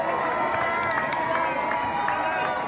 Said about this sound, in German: Jubel in der historischen Altstadt von Bonn beim Abschiedsbesuch von Bundeskanzlerin Angela Merkel.